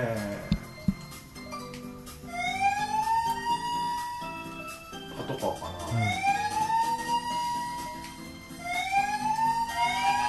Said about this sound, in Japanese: この正解になった時の音がうざいよね、うん、3回目が鳴るから、 そう かぶせ気味に、 あとパトカーなのかっていう、 うん、 今の音が ねえ、あの北米のパトカーって感じするよね